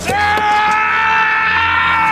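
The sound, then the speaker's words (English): A man lets out one long, loud scream of pain after breaking two of his toes kicking a helmet, a strained, wavering cry held steadily for about two seconds without a break. “And the scream that you hear in the movie is him actually screaming in pain after he broke them.”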